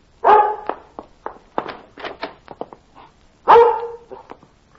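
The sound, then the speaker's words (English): A dog named Mike barks twice, loud and harmonic, at the start and near the end, with a run of short, softer yips and snuffling sounds between them; no one speaks. “Oh, Lord love the foolish dog, but I'd hate for the dog catcher to be getting him.”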